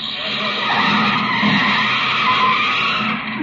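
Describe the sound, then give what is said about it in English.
A car brakes hard, its tires letting out a loud, sustained skidding screech that holds steady for several seconds before cutting off as it stops. “Sensitive brakes.”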